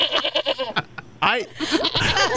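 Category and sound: animal, goat bleating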